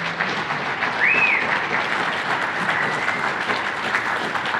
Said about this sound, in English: I want to invite someone really special to come up and join us. And so Pastor Mark Wilson, you guys want to clap and cheer for Pastor Mark?